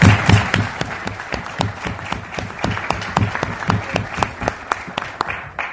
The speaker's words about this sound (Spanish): Sabemos que este año se lo van a poner al hombro de nuevo y va a ser súper exitosa esta edición, así que les pido un aplauso para ellos, que muchos están acá.